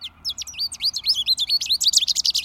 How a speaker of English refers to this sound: And here's an American goldfinch saying "potato chip" and repeating notes. Listen for these birds singing over the sidewalk from spring to the end of summer.